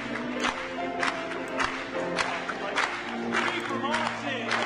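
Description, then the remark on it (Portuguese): A crowd claps hands together in a steady rhythm, roughly two claps a second, clapping once more during the chorus, over sustained singing voices and accompanying music. “Vamos bater palmas mais uma vez.”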